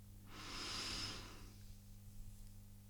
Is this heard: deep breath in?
yes